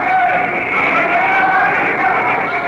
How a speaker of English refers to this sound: Italian fascist newspapermen interrupt the Lion of Judah. They whistle, boo, and shout. Other delegates and spectators applaud the emperor.